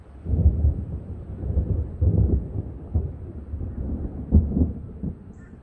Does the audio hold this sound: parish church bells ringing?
no